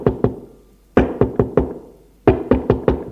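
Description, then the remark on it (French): Sharp knocks on a wooden door of a hotel apartment at 2 p.m. come in three bursts: two quick raps, then four, then four more, each hit loud with a short hollow decay, and no voices. “Frappe à sa porte.”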